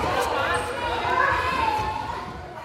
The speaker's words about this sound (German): Etwa 20 Mädchen und Jungen hüpfen, krabbeln oder flitzen durch die alte Turnhalle in Berlin-Charlottenburg. Zwei Kleinkinder schubsen einen riesigen Gymnastikball vor sich her. Andere werfen bunte Schaumstoffwürfel.